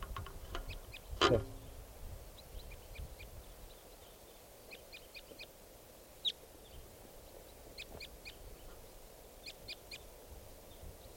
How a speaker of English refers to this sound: There's a type 2 bird here. Wow, bird.